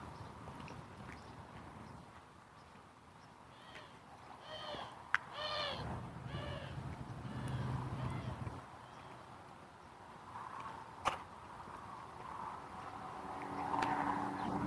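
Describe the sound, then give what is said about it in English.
Doves give a short burst of raspy, squawking calls, several in quick succession, over a low outdoor background hum with a couple of sharp clicks. “These doves always sound so weird.”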